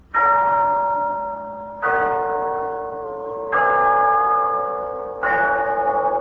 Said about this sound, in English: Yes, there's the clock in Glen Falls Town Hall, telling us it's time for Renzo's story of Big Sister.